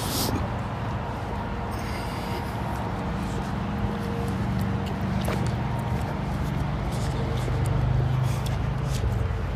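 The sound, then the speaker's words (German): A steady, continuous roar of traffic on the A6 motorway rumbles from above as the speaker walks beneath it, at a construction site where a new bridge over the Neckar is being built; a dense wash of tyre and engine noise that swells slightly toward the end, with no one speaking. “Dieses beruhigende Geräusch der A6. Ich weiß gar nicht, ob ihr das hören könnt. Aber ich werde gleich unter der A6 durchlaufen.”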